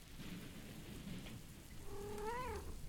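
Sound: cat meowing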